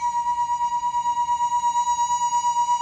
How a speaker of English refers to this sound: Listen now for a slower trembling when the glasses are played together. Now here's number one. And now both.